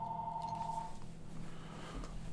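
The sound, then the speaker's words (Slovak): A mobile phone's electronic ring tone sounds once as a steady pitched beep for about a second, then cuts off, leaving only low hum and faint background noise. “Ja mám telefón, tak to treba zrušiť.”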